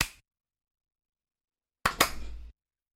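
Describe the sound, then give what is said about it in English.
A single sharp hand clap, made by bringing together hands held about a foot apart, cracks out after a stretch of silence, loud and percussive, followed by a short ringing decay that fades within half a second. “So if you hold your hands out in front of you, about a foot apart from each other, and then just look in the space between your hands, and then clap.”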